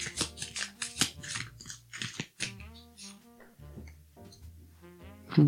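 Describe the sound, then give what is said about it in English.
A deck of affirmation cards being shuffled, with a run of quick papery riffles and crisp snaps, some louder bursts, over a soft steady tonal hum in the background. “Okay, so I'm going to shuffle these cards and see what we need to affirm today.”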